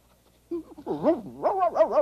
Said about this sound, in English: Bob Dog? Oh, there you are. I've been calling and calling you. What are you barking about? I don't see anything.